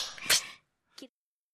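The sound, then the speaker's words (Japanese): A quick whooshing swish ends in a single loud, sharp whip crack, followed moments later by a brief, fainter vocal-sounding burst, then silence. “じゃあ、ムチで。”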